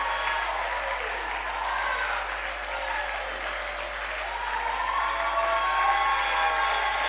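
An audience claps and shouts in praise to God, loudly and steadily, a dense wash of applause with raised voices and cheers mixed in, sustained for several seconds without pause.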